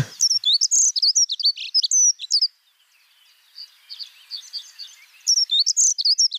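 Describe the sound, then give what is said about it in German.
A songbird twitters in rapid, high-pitched squeaky bursts, like a squeaking bicycle chain; loud busy phrases at the start, a softer stretch of quieter twittering mid-clip, then loud phrases again at the end. “so ein bisschen zwitschernd und man kann sich so ein bisschen ich stelle mir so einen quietschenden Fahrradreifen vor”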